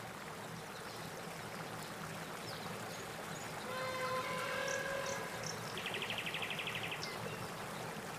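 flowing river water

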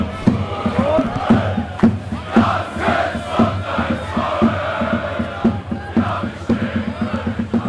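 football stadium crowd

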